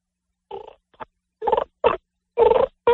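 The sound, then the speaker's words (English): A person makes a series of low, throaty growling bursts with the diaphragm, five or six short rough grunts in an uneven rhythm, imitating a chicken scratching on the ground. “All these, I do a sound where I call it a growl with my diaphragm. I sound just like a chicken scratching on the ground.”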